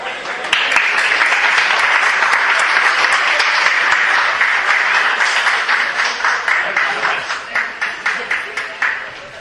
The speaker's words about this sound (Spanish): Así que un fuerte aplauso para él.